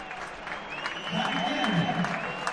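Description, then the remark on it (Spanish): A crowd at a football match applauds steadily as substitutions are made, the clapping dense and continuous for a few seconds, with a faint murmur of voices underneath and a thin sustained tone running through it. “No, aplaude, la gente aplaude.”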